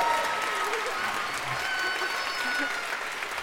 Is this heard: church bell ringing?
no